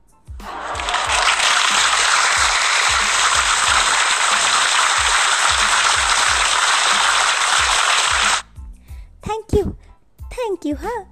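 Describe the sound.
A dense, steady burst of applause from a crowd lasts about eight seconds, loud and even throughout, then stops abruptly as voices begin speaking.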